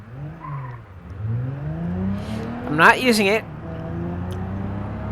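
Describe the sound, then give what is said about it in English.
A car engine is over-revved hard, its pitch climbing steadily to a loud, strained whine with a brief tire-like squeal at the peak, then settling into a steady high drone. “Because I'm really, really over revving it.”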